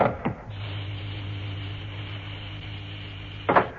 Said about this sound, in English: Do we need suits? No, we're not going outside. Oh, right. I'm ready. And open the door. Oh, yes.